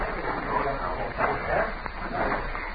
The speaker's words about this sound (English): A dog was moving around, whimpering.